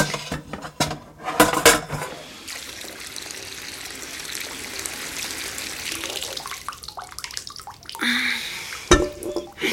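Opened glass jars for quince jelly clink and knock against a metal pot as they are set in it. Then a long stretch of running water pours in from a tap to fill the pot so the water can be brought to the boil. A few more clatters of glass and metal follow.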